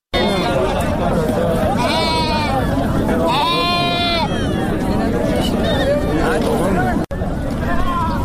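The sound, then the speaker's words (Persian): Several sheep bleat in overlapping, wavering cries amid a dense hubbub of crowd chatter and movement at the Ganj Bazaar livestock market in Andkhoy, Faryab province, which holds thousands of animals including sheep and cattle. The bleats are loud around two and four seconds, with a busy outdoor din throughout. “گنج بازار یا بازار فروش مواشی در اندخوی فاریاب میزبان هزاران حیوان از جمله گوسفند و گاو است.”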